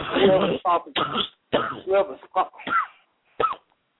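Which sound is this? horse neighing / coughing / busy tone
coughing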